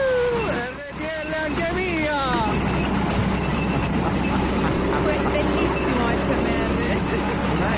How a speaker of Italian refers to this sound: ASMR, sì. Da un trattore cingolato. Bellissimo. Perfetto.